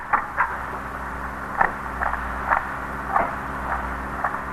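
A key works inside a car door lock, making a series of short metallic clicks and scrapes spaced unevenly over a low steady hum, with no voices.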